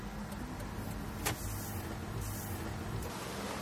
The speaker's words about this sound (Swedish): En sista test. Ljudet av mina fotsteg hörs mer än elbilen som kör bredvid.